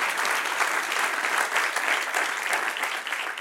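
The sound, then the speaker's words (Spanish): A crowd applauds steadily, a dense, continuous patter of many hands clapping at even volume for a few seconds, with no voices standing out. “Denle un aplauso al que reina.”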